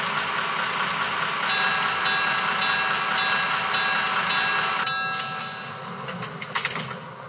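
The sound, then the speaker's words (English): Passenger train number 822 from Patterson rumbles steadily into Maywood station on track 1, with a dense, roaring low end and faint high squeals. It eases off near the end as it slows, with a few sharp clanks. “from Patterson on track 1, train number 822.”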